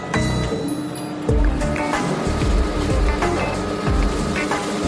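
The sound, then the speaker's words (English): Water is poured onto a turning mechanism, splashing and gurgling steadily, with a low churning rumble and sloshing bursts throughout, loud. “Go ahead, let's do it while it's turning. All right, this will be exciting. When that starts turning, I'll start pouring.”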